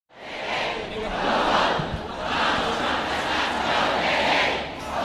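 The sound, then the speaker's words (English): Thousands of protesters at Copley Square chant against President Donald Trump's executive order blocking entry to the U.S. for people from seven mostly Muslim countries: rising and falling waves of many voices, loud and dense, with a rumbling roar underneath and no single speaker standing out. “Thousands gathered at Copley Square yesterday to protest the president's executive order blocking entry to the U.S.”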